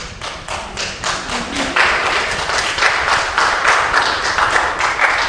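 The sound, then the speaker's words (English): A crowd listening to a gospel sermon claps together in scattered, unenthusiastic applause after the preacher says they should be smiling and clapping, a steady patter of many hands lasting several seconds at moderate volume, with no one speaking over it. “We should all be smiling and clapping by now.”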